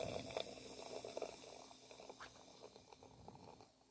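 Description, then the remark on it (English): Beer glugs and fizzes as it's poured into a glass, a soft, continuous gurgle with crackling bubbles that slowly thins out over a few seconds, with no voices. “I have poured mine. Bearded Brewer's pouring his.”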